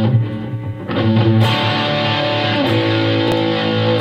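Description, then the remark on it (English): A loud, heavily distorted electric guitar rings out through an amp stack set below half volume, thick sustained chords with a few fresh strums cutting in, played alone with no voices. “Yeah, it's awesome because, I mean, you're getting this huge stack sound. And it's not even half volume, you know?”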